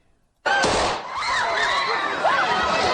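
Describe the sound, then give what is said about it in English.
A sudden loud gunshot rings out in a crowded train station in Ukraine, followed by a dense clamor of the crowd, with high-pitched cries and shouts rising and falling over the steady roar of many people. “Those shots rang out in a crowded train station.”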